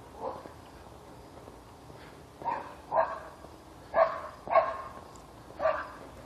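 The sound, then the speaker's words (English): A dog barks in a loose, irregular series of about six short barks, some in quick pairs, with no one talking over them. “Oh, dog.”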